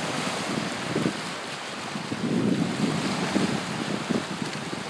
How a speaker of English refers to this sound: I think it's just so cool to listen to the waves. It's very pretty. Big blue ocean. It's really pretty to watch. It's very rocky up here, so the waves are really loud.